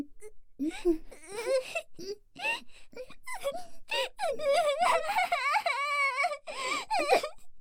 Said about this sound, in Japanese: 泣いてる？なんで泣いてるのさ。